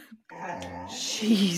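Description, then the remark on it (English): A female dog lets out a drawn-out, whining vocalization that rises toward the end, more a continuous whimpering moan than sharp barks, with possible talking mixed in. “Yeah, she just needs like stop barking at everything drops.”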